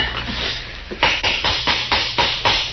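hammer tapping

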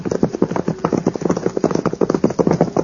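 horse hooves clip-clopping

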